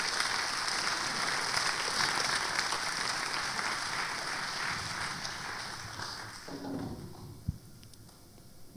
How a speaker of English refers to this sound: And right now, I'm going to go ahead and I'm going to ask our dignitaries to come forward. These are four people that I admire, and you know, I would go ahead and applaud them as they come, but these are some of God's ambassadors.